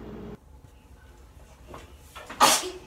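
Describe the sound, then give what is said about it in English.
A single sharp, loud sneeze bursts out near the end, preceded by a softer breathy intake, over a quiet background of low rumble with no talking. “Bless you. Bless you.”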